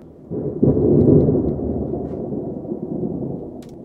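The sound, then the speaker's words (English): A deep, rolling rumble of thunder from a thunderstorm in San Diego County on a Monday swells in after a brief quiet and lingers at a steady, heavy level, a broad low roar with no voices present. “Thunderstorms brought some wild weather to San Diego County on Monday.”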